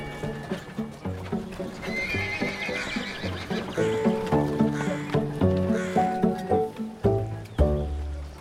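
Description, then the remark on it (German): A donkey brays loudly in long, harsh cries while hooves trot steadily in a clip-clop rhythm, the braying rising and falling over the continuous footfalls. “Darum ist der Esel weggelaufen.”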